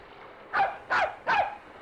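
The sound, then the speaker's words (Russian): A dog barks three times in quick succession, each bark short and fairly loud, with a faint background hiss and no voices. “Пес словно зовет нас.”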